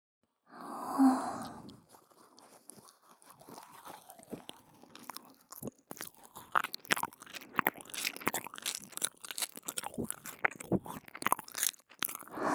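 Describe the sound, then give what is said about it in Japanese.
Wet mouth nibbling and chewing sounds on a nipple: a steady stream of soft smacks and clicks running for several seconds, preceded by a brief breathy sigh at the start. No speech. “反対側の乳首さんももぐもぐしてあげるね。”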